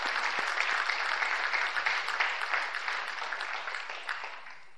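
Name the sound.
round of applause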